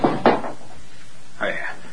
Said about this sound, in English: I'm sorry. I knocked the basin to the floor.